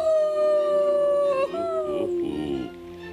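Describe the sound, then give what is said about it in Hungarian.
A long, eerie animal howl, from an owl or monkey on an island, rings out loud, holding a steady wavering pitch before sliding lower and breaking into a rougher, fading wail, with no talking. “Csak valami bagoly vagy majom.”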